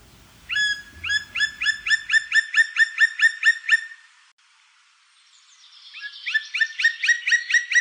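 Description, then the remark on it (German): A black woodpecker, a crow-sized bird with black plumage and a red cap and the largest native woodpecker, calls in two loud, ringing series of rapid, evenly spaced notes, about a dozen in the first run, then a short pause before a second run starts. No one speaks. “Es ist ein Specht, genauer gesagt der Schwarzspecht.”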